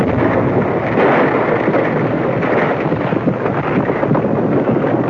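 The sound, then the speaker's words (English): A loud, deep explosion of a fused bundle thrown into a mine rumbles on without a break, a dense roar of blast with rocks and snow tumbling down the hillside, filling the whole stretch with no voices. “Suddenly, there was the sound of an explosion.”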